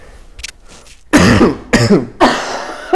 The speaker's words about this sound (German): nimmt sich jetzt eine Decke, setzt sich hier dazu und wird wahrscheinlich, wie ich auch, ins Mikrofon husten.